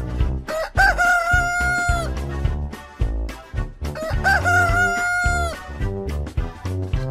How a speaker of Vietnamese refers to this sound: Gà gáy. Thấy trời sáng, gà gáy ó o, đua nhau gà gáy. Gà gáy thật to, ó ó o o.